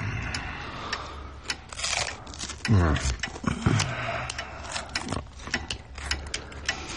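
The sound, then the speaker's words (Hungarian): Someone repairs a small lighter, producing irregular mechanical clicks and ticks over about seven seconds, with a brief low murmur partway through. “egy öngyújtót javítgat.”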